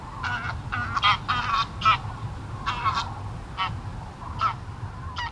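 A flock of geese honks in a busy, overlapping series of nasal calls, some louder, others fainter, over a steady low outdoor rumble with no one speaking.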